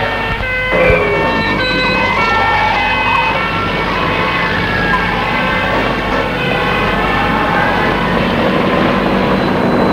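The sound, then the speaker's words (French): An ambulance siren wails steadily and loudly for the whole stretch, its rising and falling tones layered over a dense, rumbling street-like background noise. “Les malades sont mis dans des ambulances, les autres sont mis dans des cars.”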